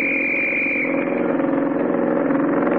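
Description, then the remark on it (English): A police motorcycle engine drones steadily with a loud, pulsing mid-pitched rumble, while a high whining tone rings over it at first and fades after about a second. No one speaks. “A motorcycle cop.”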